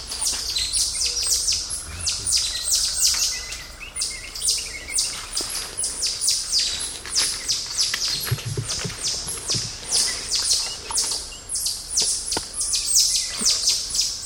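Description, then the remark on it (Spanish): A nearby group of titi monkeys gives rapid, high-pitched, bird-like squeaks of curiosity, many overlapping chirps repeating steadily throughout at a fairly loud level, with no voices. “Jason sabe que el grupo está cerca con solo escuchar esos chillidos.”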